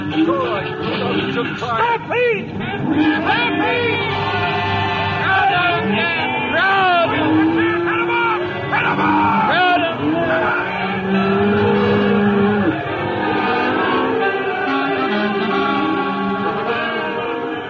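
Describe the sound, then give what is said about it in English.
A stampede of 10,000 head of cattle: a loud, unbroken churning roar of the running herd, with many overlapping bellowing, wavering cries layered over a steady low rumble for the whole stretch. “Stampede. 10,000 head of cattle gone loco.”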